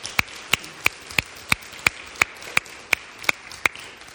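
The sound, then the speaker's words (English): A round of applause to show appreciation and gratitude, about a dozen sharp, evenly spaced claps at a steady, brisk rhythm, each a crisp smack over faint background hiss, with no voices. “show our gratitude for her with a round of applause.”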